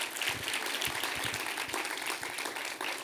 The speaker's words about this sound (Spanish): Vamos a dar un aplauso a Dios por eso, está genial.